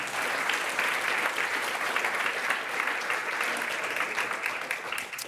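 An audience claps steadily for about five seconds for the guests of a food discussion, a dense, even wash of many hands with bright, crisp patter and no voices rising above it.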